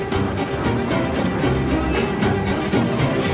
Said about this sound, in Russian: Трамвай трогается.